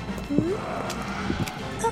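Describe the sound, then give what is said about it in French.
Faint, distant clip-clop of horse hooves, a few uneven thuds spaced across two seconds, set against a murky low rumble with brief tonal murmurs in the background. “Sont-ce là les échos des sabots de chevaux?”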